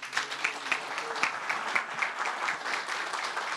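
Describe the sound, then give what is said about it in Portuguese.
A crowd applauds steadily for CDHU president Humberto Schmidt at a signing ceremony, dense clapping at moderate volume without pause, with faint voices murmuring underneath. “Pode aplaudir mais forte aí o nosso presidente da CDHU, Humberto Schmidt.”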